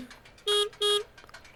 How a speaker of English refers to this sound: There's the horn blowing. As compared to where you hear the ticking from.